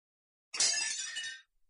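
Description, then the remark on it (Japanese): A single sharp crash of tableware breaking, the young mistress's favorite dish, a bright ceramic shatter with scattered clinking fragments lasting under a second, loud, with no voices. “今何か割れたような音がしたけれども、どうしたのですか？”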